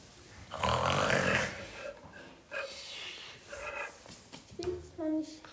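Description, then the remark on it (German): Loud, rasping, familiar snoring from the parents' bedroom, one long rumbling breath followed by several shorter snorts and wheezy inhales in an irregular rhythm. “Vorbei am Schlafzimmer der Eltern. Aus dem vertrauten Schnarchen drehen.”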